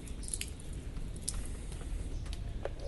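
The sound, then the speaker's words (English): A garden hose releasing its pressure after the water is turned off: a steady wet hiss and squishing spray with scattered small drips and clicks, continuous for a few seconds, no voices. “Let the pressure out of the hose.”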